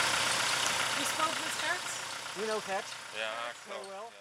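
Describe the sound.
A car with colleagues sitting inside idles with a steady, low rumbling drone that holds throughout, while voices speak over it in the second half.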